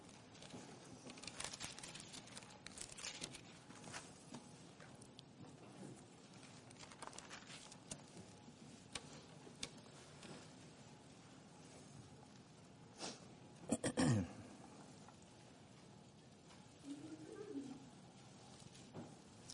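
Many book pages rustle and flip as people turn to James chapter 4, a steady scatter of soft papery crackles from several directions, with one louder thump and shuffle partway through.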